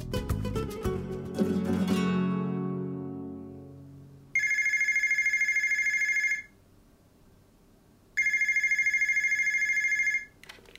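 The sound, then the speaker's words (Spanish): A telephone rings twice in clear, steady bursts, each about two seconds long with a pause between, following a short musical flourish that fades out at the start. “Diga. ¿Está Marta?”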